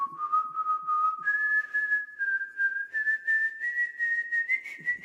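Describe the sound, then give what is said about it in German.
Wolfgang Amadeus Mozart's small caged pet bird, in Vienna on 27 May 1784, whistles a melody from Mozart's new piano concerto in one clear, pure tone. It glides gradually higher over several seconds in smooth connected phrases, with no talking. “Dieser Vogel pfeift doch tatsächlich seine Musik.”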